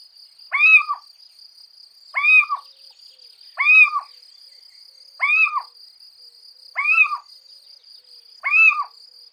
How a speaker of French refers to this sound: Avez-vous deviné qu'on parle ici de la chouette chevêche, nommée aussi chevêche d'Athéna? Rien que pour le plaisir d'écouter ses chants variés, elle est la bienvenue dans mon jardin.